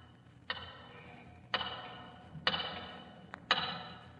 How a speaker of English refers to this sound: And as he watched the hands of the big tower clock, he could hear its ticking in his mind's ear, as clearly as though it were inches away.